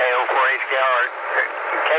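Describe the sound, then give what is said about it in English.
A brief burst of garbled, tinny radio transmission as a station keys into a repeater, with indistinct warbling voice-like sound filling the whole two seconds at steady, fairly loud level. “It sounded like it might have been an Echo Link station trying to get in.”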